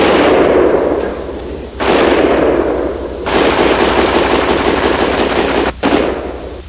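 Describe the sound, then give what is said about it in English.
Gunshots striking an iron target behind a tree fire in rapid, sustained bursts, loud and harsh. Four runs of fire are split by brief pauses. No voices. “This is going to be a lot louder than this. Yeah, no shit. The iron. You guys see what I'm hitting it on?”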